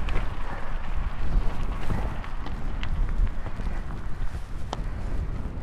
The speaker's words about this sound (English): Ah, the wind has come into play here. We've just come around the corner. It's been hit with like, oh God, this is savage. Oh, maybe this is the storm.